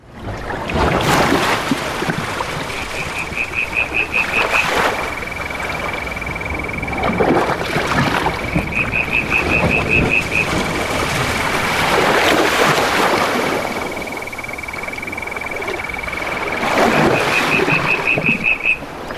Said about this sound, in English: The sounds of the Australian summer are so unique. These sounds are from RN Features producer Jane Ullman, who recorded these noises at Twofold Bay on the New South Wales south coast.